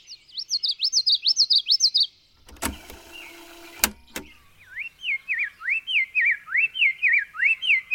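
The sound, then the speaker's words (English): A fast, bright stream of song from many birds in a forest, with rapid rising and falling chirps, briefly interrupted by a mechanical whir and clicks, then the dense warbling resumes, loud. “There's this flood of birdsong going on, and I'm detecting a very small part of it.”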